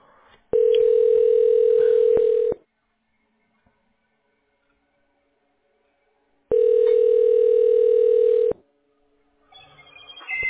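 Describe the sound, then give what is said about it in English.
Two long, steady telephone ringback tones, each lasting about two seconds with a quiet pause of several seconds between them, as a call to Samuel Construction Group connects, followed by the start of a faint sound at the end. “One moment, we're connecting your call.”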